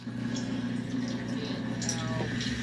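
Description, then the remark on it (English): A washing machine drains the water after washing a bath towel, its pump humming low and steady under a continuous rush of flowing water, moderately loud throughout with no talking. “It is time to drain the water from our family bath towel.”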